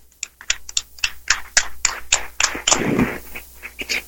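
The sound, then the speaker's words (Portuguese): An audience applauds for Jesus present in the sacrament, for about four seconds: a run of sharp, crisp claps at an uneven pace, briefly thickening into a fuller burst midway before thinning out again. “Uma salva de palmas para Jesus, que se faz presente nesse sacramento.”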